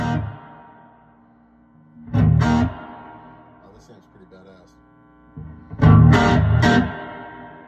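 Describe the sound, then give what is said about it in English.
A distorted electric guitar played through a fuzz pedal rings out in two loud, gritty bursts of chords that sustain and fade, with a voice speaking briefly between them. “Check this out with the fuzz.”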